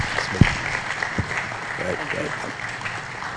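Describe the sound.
An audience gives a clap offering, applauding steadily, a dense wash of many hands clapping with a couple of sharper claps standing out, while voices call out over the noise.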